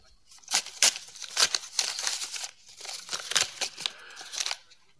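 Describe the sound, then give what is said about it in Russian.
A paper package delivered to a professor being torn open: a run of sharp, crackling rips and crinkles, fairly loud, coming in quick irregular bursts over several seconds with no voices. “Пакет господину профессору.”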